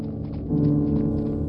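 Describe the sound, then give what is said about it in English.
Horses clopping over cobblestones down a dark street in a quick, steady rhythm of hoofbeats, with a low sustained droning tone running underneath throughout. “Horses clopping over the cobblestones, we made our way down the street.”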